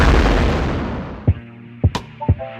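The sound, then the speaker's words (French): A big bang explosion sound effect: a loud, deep rumbling blast that slowly fades, then three sharp punchy hits with a brief ringing tone, with no one speaking. “Le Big Bang.”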